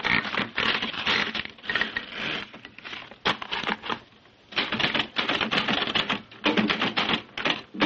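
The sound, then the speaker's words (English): Rapid mechanical typewriter keystrokes clatter in dense bursts, with a brief pause midway before the loud clacking resumes; no one speaks. “And put yours down as a typewriter.”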